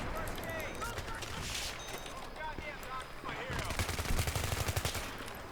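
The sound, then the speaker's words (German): Rapid bursts of video game assault rifle gunfire crackle loudly and densely, intensifying toward the end, with a voice talking underneath in the first half. “Ich meine, das ist ein Schuss eben, der geht, ja.”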